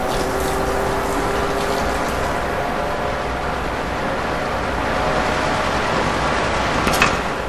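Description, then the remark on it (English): Vacuum machinery in a phone booth-sized decontamination chamber, stage 2 of decontamination, roars steadily and loudly, a dense whooshing hum with faint mechanical rattling throughout and a brief sharper hiss near the end. No one speaks. “Stage 2, vacuum.”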